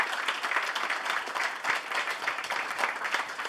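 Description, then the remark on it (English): A live audience at a comedy show during an International Comedy Festival applauds itself for coming out to support the show, dense overlapping claps forming a continuous wash of sound that stays fairly even and sustained throughout, with no voices standing out. “And give yourselves a round of applause for coming out, supporting our show.”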